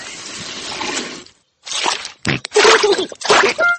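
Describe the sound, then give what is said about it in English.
A sponge dropped by the cartoon pig George (Peppa Pig) while washing the car falls into a muddy puddle with a long, wet splashy squelch, then after a brief pause come several shorter squishy splashes and slops, fairly loud. “Oh dear, George has dropped his sponge in a muddy puddle.”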